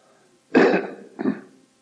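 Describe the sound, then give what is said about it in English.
Two harsh bursts of coughing and throat clearing, a stronger one followed by a shorter one, with no talking. “I've had this real bad cough for some time.”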